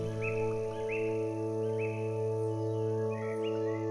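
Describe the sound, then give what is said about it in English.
Exotic birds singing in a lush tropical forest with vine-covered trees: a repeated pattern of rising whistled chirps, roughly one per second, over a steady, humming tonal drone that fills the background throughout. “There are enormous vine-covered trees, and you can hear exotic birds singing all around you.”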